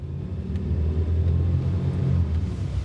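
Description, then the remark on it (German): A car engine rumbles steadily as the car starts and drives off, a deep low drone with a faint periodic throb that holds an even loudness throughout, with no voices. “Einige Zeit später stiegen Amanda und Matthew in Stephens Wagen.”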